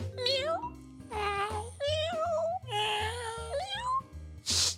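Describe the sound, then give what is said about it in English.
A person imitates a cat with a string of drawn-out, wavering meows, loud, over a low rhythmic backing beat, ending with a short breathy burst. “Meow. Wow, that was convincing. I'm pretty practiced.”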